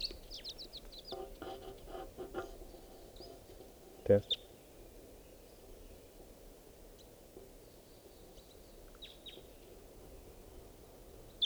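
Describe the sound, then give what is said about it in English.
A lone wild bird in flight calls in faint, scattered high chirps, a short run early on and a few more later, over a steady low background murmur with a brief muffled voice and a sharp knock midway. “So, pointing out the wild bird. In flight. Lone bird.”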